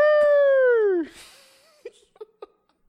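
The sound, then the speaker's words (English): A person mimics a husky's howl with one loud, sustained vocal tone lasting about a second that droops in pitch at the end, followed by a breath and a few short, soft chuckles. “What kind of dog are you turning into, though? A husky.”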